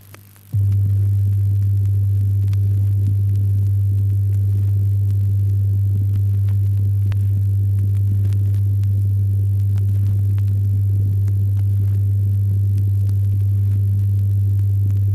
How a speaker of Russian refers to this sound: Для этой цели левый и правый громкоговорители надо сдвинуть вплотную друг к другу и, не нарушая предыдущие регулировки, прослушать запись чистого тона. Говорители сфазированы правильно, если запись тона на первой полоске звучит громче, чем на второй.